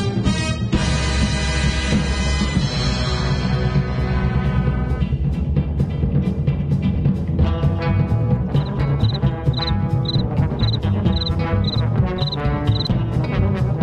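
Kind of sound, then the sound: insect, cricket chirping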